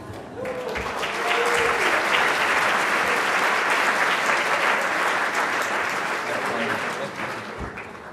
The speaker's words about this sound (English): Well, that was a nice round of applause, mainly for the joke.